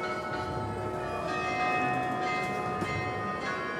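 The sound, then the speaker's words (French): Carillon bells chime the hour in the evening, in a classic, traditional form, ringing out together in a sustained, overlapping chime, their tones hanging in the air with a steady wash of lingering overtones, fairly loud and without any voices. “le carillon cette fois-ci n'est pas dans la forme composée par Gabriel Mattei, mais dans une forme peut-être plus classique, plus traditionnelle”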